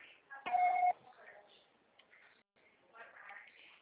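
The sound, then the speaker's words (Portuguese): A single loud, steady electronic voicemail beep lasting under half a second, marking where recording of a message begins, set among faint murmuring voices before and after. “Grave o seu recado. Você só será tarifado após o sinal.”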